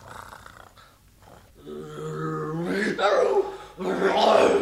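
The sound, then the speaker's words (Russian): A tigress roars loudly, a deep rising growl that swells into two harsh, forceful bursts after a quiet start. “Тигрица! Тигрица! Сейчас она съест мальчишку, а потом меня!”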